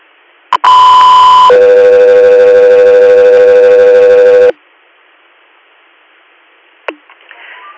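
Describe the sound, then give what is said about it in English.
Loud radio dispatch alert tones for an air medical crew before a patient transfer request: a steady high electronic tone for about a second shifts into a longer, lower sustained tone, then cuts off, leaving quiet hiss and a brief radio click. “Air, stand by for Tones.”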